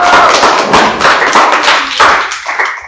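An audience breaks into loud, sustained applause for a student who performed a song, a dense wash of many hands clapping that holds steady for a few seconds before starting to thin out and fade at the end.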